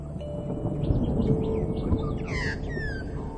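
An Australian magpie calls with a run of warbling, fluting notes rising and falling, then a louder burst of gurgling song near the end, over a steady low outdoor rumble.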